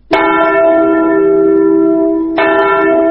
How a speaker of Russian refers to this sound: Здесь, в Катыни, в апреле всегда слышен звон траурного колокола.